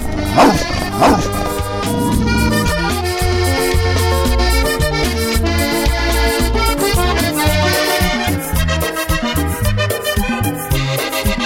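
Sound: small dog barking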